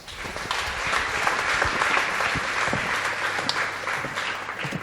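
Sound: audience applause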